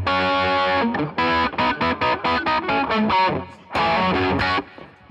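A played recording of a rock guitar solo: loud, heavily distorted rock guitar plays over a full band, with a run of punchy, evenly spaced chord stabs between longer sustained passages. No one speaks.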